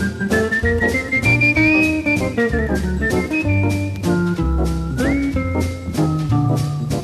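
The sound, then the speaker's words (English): A male jazz musician whistles a smooth, sliding jazz melody, clear, over a full band backing of bass, steady drums and chords, with no talking. “Yeah, he could whistle really, really well.”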